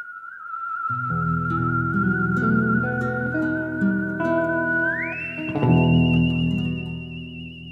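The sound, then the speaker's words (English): A person whistles a tune in long, wavering held notes over a steady instrumental accompaniment, then slides up to a higher, brighter note that is sustained to the end. “I want to back up for a second with this whole whistling competition space.”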